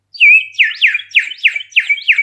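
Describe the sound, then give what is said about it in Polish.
A clay bird whistle sounds on its own: one held high note, then about six quick warbling swoops in a steady rhythm, bright and fairly loud, like a trilling bird call. “Nie taki ton jak u mojego glinianego ptaszka, posłuchajcie.”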